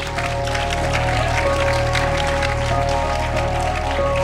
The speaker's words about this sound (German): Einen großen Applaus für Manfred Manger.